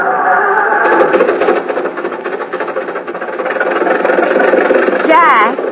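A car engine runs steadily at idle, a continuous rumbling drone that fills the whole stretch, with a brief rising whine near the end.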